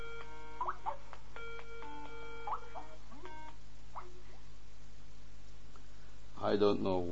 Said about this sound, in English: But let us, that's a distraction. Somebody's already calling us on the phone, and this is not acceptable at the moment.